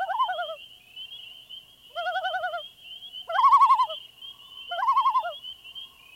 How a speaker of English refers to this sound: For those who frequent the northern lake country, the spectacular night sounds made by this one species stand out above all others. These are the tremolos, wails, and yodels of a well-known water bird, the common loon.